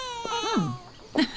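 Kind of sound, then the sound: human body sound, baby crying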